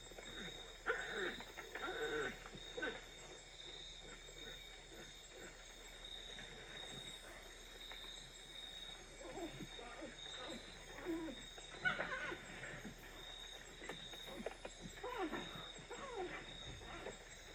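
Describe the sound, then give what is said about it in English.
Pacas barking while foraging at night: repeated gruff, harsh barks in scattered bursts over a steady background hiss, fairly quiet, with a louder, more aggravated cluster from one individual partway through. “This is likely a mated pair hearing another individual encroaching on their territory, which is why towards the end of the audio, we start to hear more aggravated barking sounds from one of the individuals.”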